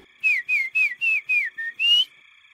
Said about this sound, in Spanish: No puede ser el silbido